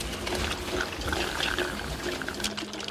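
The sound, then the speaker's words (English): A continuous wet, gurgling suction sound of a surgical vacuum drawing up significant blood from the cavity during an amphitheater surgery, entered on the medial line just above the pubis, with bubbling and slurping textures throughout, fairly loud, no voices. “As you can see, there is significant blood in the cavity. Vacuum,”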